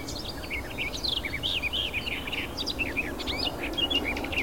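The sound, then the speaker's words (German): A nightingale's high, whistling song with rapid varied chirps and trills, continuous, over a steady low background hum. “Das hohe Pfeifen der Nachtigall.”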